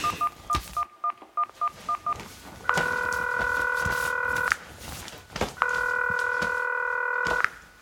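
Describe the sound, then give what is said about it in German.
A quick run of about eight beeping keypad tones as a phone number is dialed on a mobile phone, followed by two long, steady ringing tones with a pause between them, clear with no voices. “Jetzt muss ich aber gleich die Laura anrufen. Wo habe ich denn mein Handy?”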